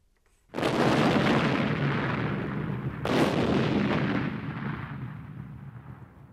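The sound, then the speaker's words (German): Two heavy cannon blasts, the first at about half a second and the second near three seconds, each a loud booming roar that rumbles and slowly fades. “Aber jetzt Achtung, es wird zuerst noch ein bisschen laut.”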